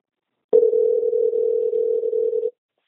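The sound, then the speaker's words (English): A steady, unbroken telephone dial tone from a recorded phone call hums clearly for about two seconds, then cuts off abruptly into silence. No voices accompany it. “There's this recording of a phone call.”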